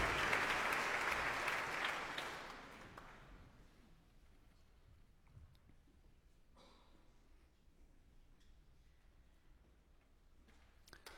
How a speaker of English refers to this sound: Oh yes, we have a leader, Roman Simovich. Comes to the front of the stage, he takes his applause.